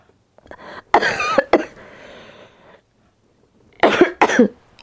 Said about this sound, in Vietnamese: Thú thật mấy ngày nay tôi cũng hơi mệt rồi, tại vì tôi bị ho.